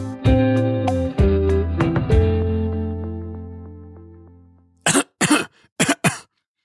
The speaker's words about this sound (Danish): Coronavirus har lært os, at et host ikke altid er helt uskyldigt. Det kan gemme på en farlig sygdom.